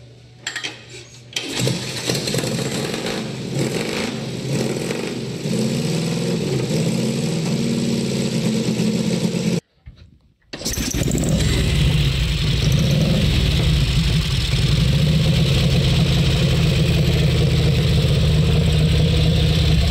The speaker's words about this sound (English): man, when you hear this motorcycle, you can just hear it. When you listen to, say, a knucklehead bike from this time, or one of Indian's big twins compared to one of the Crocker big twins, you can just hear the power.